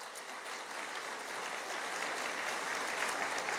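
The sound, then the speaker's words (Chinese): A church audience claps steadily to give glory to God during a sermon, a dense, continuous wash of applause holding at a fairly even level and swelling slightly toward the end, with no voices standing out. “阿们，拍手把荣耀归给主好不好？”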